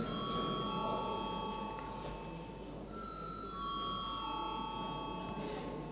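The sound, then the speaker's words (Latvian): A parliamentary voting bell, rung when deputies request a vote, sounds as a steady, sustained electronic tone, with a second higher tone layering in about halfway through, over a low, constant background murmur. “Deputāti pieprasa balsojumu. Lūdzu, zvanu.”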